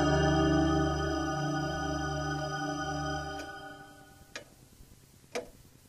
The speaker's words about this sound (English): Megan could hear the big mantel clock in the den downstairs ticking away the seconds stubbornly